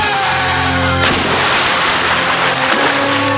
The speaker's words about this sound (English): All right. Falling into deep water.